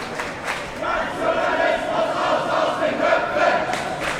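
A crowd of protesters in Germany, a few feet away, shouts in unison "Get out, Nazis!" and "Get rid of nationalist thinking", a loud, sustained wall of raised voices with rhythmic chant-like swells throughout.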